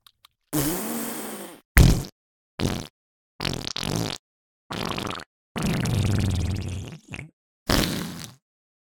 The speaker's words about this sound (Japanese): 行くわよ。加減なんてもうできない。全力へこき。ああ、出る。人前でしちゃいけないような汚いおなら出る。